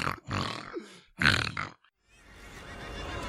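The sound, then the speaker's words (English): A voice imitates the pig-like snorting of the character Bab Morda, giving two rough, nasal snorting grunts with a short gap between them, followed by a steady hiss of breathy noise. “Her snorting, it was so annoying.”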